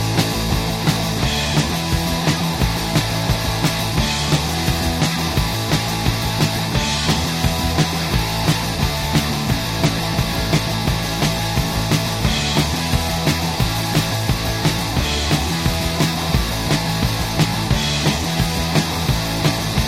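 A fast, loud punk rock song plays throughout, with driving distorted guitars and steady pounding drums in a relentless, dense wall of sound, no pauses.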